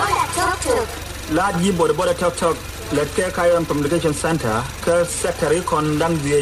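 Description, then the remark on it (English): A mobile radio station mounted on a battered old motorbike comes to life at the press of a button, with loud amplified voices and music blaring over the steady, rattling drone of an idling engine, amid a crowd in South Sudan's largest camp for displaced people near Bentiu. “Then, at the press of a button, this two-wheeled radio station bursts into life.”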